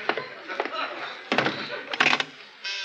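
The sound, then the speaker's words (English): A side door shuts with a few solid thumps and rattles as someone leaves, followed by a steady buzzing tone at the end. “I'll go right out the side door.”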